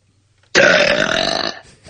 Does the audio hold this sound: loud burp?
yes